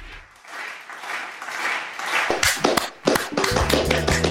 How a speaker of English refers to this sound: I feel like we start so many of these pods clapping and very little do we ever have to actually clap about.